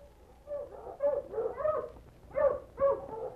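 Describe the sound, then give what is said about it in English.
Several sled dogs bark and whimper in short, excited bursts as they are harnessed, with overlapping yelps and whines rising and falling over a few seconds, no talking. “See if you can get her to drink more of this broth while I harness the dogs.”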